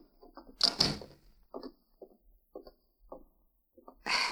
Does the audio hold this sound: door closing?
yes